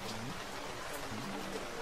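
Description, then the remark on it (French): Steady rain hisses evenly throughout, a dense wash of patter with no breaks, while a faint voice murmurs low underneath. “La pluie.”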